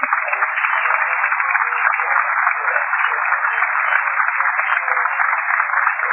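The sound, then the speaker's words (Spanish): Steady, dense applause from a crowd welcoming a speaker after his introduction, a continuous crackle of many hands clapping at an even loudness for several seconds with no voices over it. “Sí, buenas noches, gracias por esta hermosa presentación y por este aplauso de bienvenida.”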